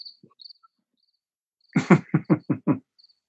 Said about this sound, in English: Nice crickets. A little off in the seasons. But with global warming or climate change, might be expected.